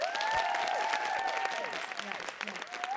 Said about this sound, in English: By round of applause, who listens to our show?